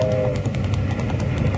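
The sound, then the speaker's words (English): A steam train chugs along with a steady, heavy low rumble and regular puffing beats, fairly loud, with no voices. “Hey, stop that iron horse. There's a boulder on the track.”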